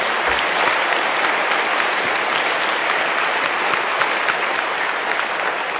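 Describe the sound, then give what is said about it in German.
An audience claps steadily for several seconds, a dense, continuous wash of many hands with no voices standing out, sustained at an even loudness throughout. “Ja, Applaus bitte.”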